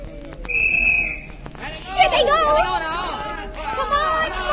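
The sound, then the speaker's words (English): A referee's whistle at a varsity basketball game gives one shrill, steady blast lasting about a second, soon after the opening jump, then a noisy crowd of voices takes over, chattering and calling out around the court. “Why that whistle so soon?”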